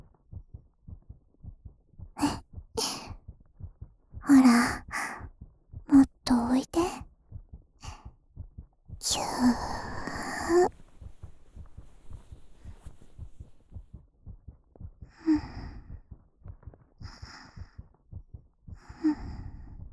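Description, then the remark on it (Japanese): A steady heartbeat thumps softly and continuously throughout, with intermittent breathy whispers and sighs layered over it. “独特って心臓の音気持ちいい？”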